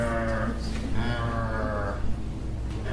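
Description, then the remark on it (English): Hungry cows moo loudly in a barn, long drawn-out lowing calls overlapping one another, with a deep, steady low rumble underneath throughout. “They got to the slope, and they turned around and went right back into the barn and started mooing.”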